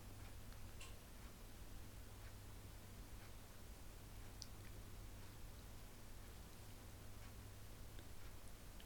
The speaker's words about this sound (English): So you can hear our clock there and things like that.